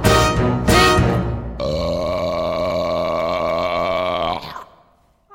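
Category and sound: human body sound, burping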